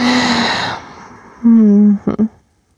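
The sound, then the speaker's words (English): A person yawns: a long, loud, breathy drawn-out sound that fades, followed by a steady low voiced hum and two short vocal bursts at the end. “I promise the yawns are just more oxygen, remember?”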